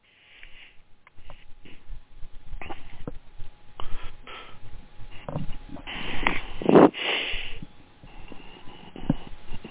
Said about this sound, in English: I have a cold, and I keep blowing my nose, so I'm going to mute.